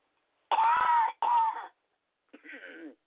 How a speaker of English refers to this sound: Excuse me, I have to cough.